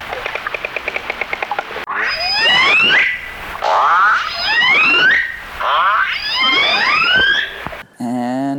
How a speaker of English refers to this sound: Killer whale.